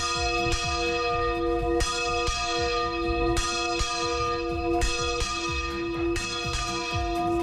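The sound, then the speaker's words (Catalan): Several church bells peal together in a loud, continuous, overlapping ring, with repeated strikes roughly every second or so and long shimmering tones sustaining between them. No voices. “Tot seguit parlarem d'un dels temes preferits d'aquest programa. Ho hem dit abans. Sí. Saps què, no? Sí. Les campanes.”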